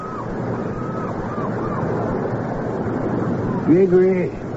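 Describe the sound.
Ocean surf rushes steadily throughout, a dense continuous wash of breaking waves. Faint wavering calls drift over it, and a louder voice-like tone briefly rises near the end.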